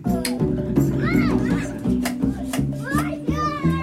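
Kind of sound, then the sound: crowd, children playing nearby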